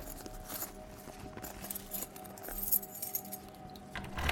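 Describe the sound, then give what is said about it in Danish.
Metallic keys jangle and clink in a steady jumble of bright, high-pitched jingles, with a few soft clicks and knocks of a lock being worked as a landlord unlocks the door of an apartment in Gnesta and lets himself in. No one speaks. “Men for at være sikker, låser han sig selv ind i lejligheden og råber, om nogen er hjemme.”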